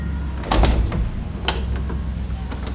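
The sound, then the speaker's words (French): The doors of Carnegie Hall slide open at 7:50 pm precisely before a concert as the crowd rushes inside, with a few sharp mechanical clunks over a steady low rumble, the loudest knock coming early and a fainter clack following a moment later. “À 19h50 précise, les portes s'ouvrent et la foule se rue à l'intérieur.”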